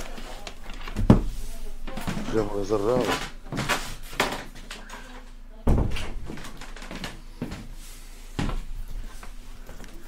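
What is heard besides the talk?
door being closed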